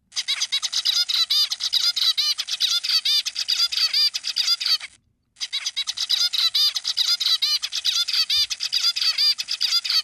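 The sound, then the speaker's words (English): A zebra finch song of dense, nasal chirps tumbling together with little steady rhythm, loud, running in two long bursts split by a brief pause. “We're going to return to the birds that we started with. Not the same birds. This is the zebra finch.”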